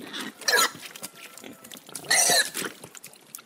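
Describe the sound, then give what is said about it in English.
Pigs grunting and squealing on a free-range forest farm in Piemonte, Italy, where 100 pigs live on 10 hectares, with two loud, bright bursts about a second and a half apart over a steady bed of softer snuffling and outdoor noise. “So how many pigs do you have here? I've got 100 pigs for 10 hectares.”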